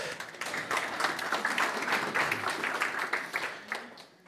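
A church audience applauds the reader of a Bible parable with dense, steady clapping that holds for several seconds and thins out toward the end, at moderate volume with no voices on top.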